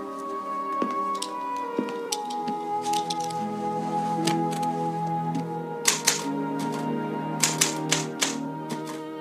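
A typewriter clacks away in uneven bursts of sharp keystrokes as a page is typed, some quick clusters and short pauses, clear over a steady, soft tonal musical background.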